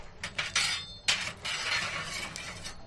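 Chestnuts being shaken in a metal roasting pan at a family roast chestnut stall in Plaza de Callao, Madrid: a dense, rattling clatter of hard little objects tumbling, coming in bursts and sustained shaking, bright and crackly with no voices.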